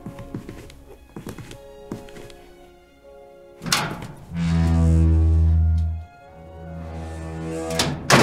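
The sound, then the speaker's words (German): A door being shut: scattered clicks and knocks of a handle, a solid closing thud, then a low droning creak and a final knock, with no talking. “Pass auf, ich dachte, da hinten ist so eine geheime Tür.”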